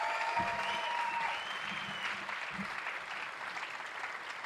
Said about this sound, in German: Also give him a big hand, macht einen Applaus für ihn. Danke.